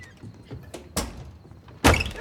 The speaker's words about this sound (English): The men in white coats take Pops away, and Daryl closes the front door.